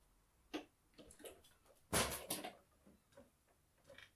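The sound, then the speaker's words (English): A door onto a hallway being opened: a few sharp latch and lock clicks, then a louder rattling clunk as it swings, followed by softer clicks. No one speaks. “I know you're fucking in there. Now open this door, or else...”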